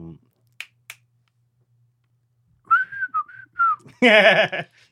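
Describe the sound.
Two quick finger snaps, then someone whistles the bouncy theme tune of The Andy Griffith Show in a few clear phrases, ending abruptly as a loud voice cuts in.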